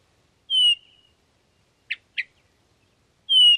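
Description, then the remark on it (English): Birdsong with no talking: two loud, clear high whistled notes with a slight downward slur, separated by a pair of short, quick chirps in the gap between them. “And that's when my world opened up to birdsong.”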